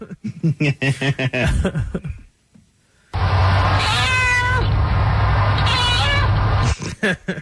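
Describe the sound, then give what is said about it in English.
A cat lets out one long, drawn-out, loud meow with a wavering pitch lasting several seconds, during a conference call. It follows a short burst of a person's voice and a brief pause. “my cat did the longest meow.”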